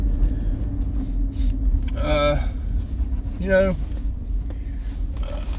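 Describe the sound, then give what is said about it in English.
A car drives along the road with a steady, loud low rumble of engine and tire noise throughout, interrupted twice by short, bright tonal bursts. “Oh, there's a car coming. And my Jeep doesn't want to go fast.”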